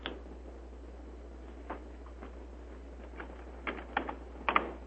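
Scattered key clicks of a person typing tap at an uneven pace, sparse at first and then clustering into quick bursts near the end, over a low steady hum.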